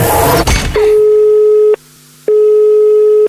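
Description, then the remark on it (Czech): A phone line's ringback tone while a call is being dialled: two steady, buzzing beeps about a second long with a short pause between, following a brief burst of rustling noise at the start. “já to zkusím ho vytočit úplně pekelně a ty mi vydrž na telefonu, jo?”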